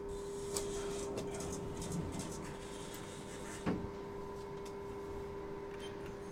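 Glass lift doors slide open at a fourth-floor library over a steady mechanical hum, with a few light clicks and one firmer clunk partway through, moderately quiet.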